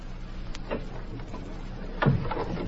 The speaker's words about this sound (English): You better shut this door.